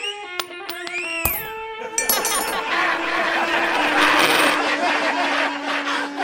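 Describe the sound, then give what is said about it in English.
Coins are tossed by people in a crowd into a sombrero and land with bright metallic clinks and ringing, first a few separate chinks, then a busier jingle over a dense, noisy background. “People in the crowd began to hurl coins into the sombrero”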